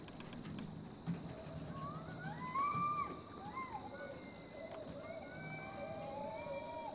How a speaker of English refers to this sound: You were hearing me scream.